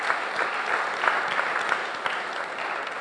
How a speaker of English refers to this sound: Let's clap for all the ushers. Ushers, yes.